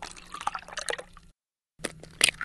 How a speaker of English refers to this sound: They're the sounds of pouring milk and cracking eggs.